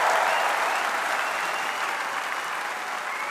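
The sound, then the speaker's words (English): A large crowd at the Labour conference in Brighton applauds Labour leader Mr. Corbyn after he gets onto the podium, a dense, continuous wash of clapping that stays loud and even throughout, easing very slightly toward the end, with no voices standing out. “And there was thunderous applause that went on for a good 5 minutes after Mr. Corbyn got himself onto the podium.”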